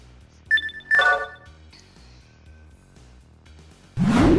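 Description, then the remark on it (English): A video game endurance-up sound effect: two quick bright, bell-like electronic chimes with ringing harmonics, followed by a pause and then a loud, rising whoosh-like burst at the end. No one speaks. “That's the endurance up noise.”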